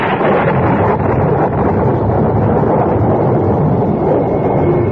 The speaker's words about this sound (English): A belt of thunder like the crack of doom, and away I went into the blackness